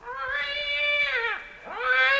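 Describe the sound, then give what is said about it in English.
A black cat lets out a long, loud yowling meow in the CBS Radio Workshop drama The King of the Cats, its pitch sagging low midway before swelling back up into another drawn-out cry, with no talking. “Scat, you black fiend!”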